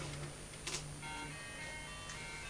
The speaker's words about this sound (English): so you going to play the tune on the tractor? Everything you have plays a tune, doesn't it?